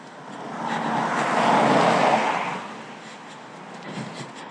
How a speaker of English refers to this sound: And sometimes when I focus on that, it's actually really interesting, because then I hear the increase of the sound as the car comes closer, and then the decrease of the sound as the car moves away. And that's quite interesting. Here it comes.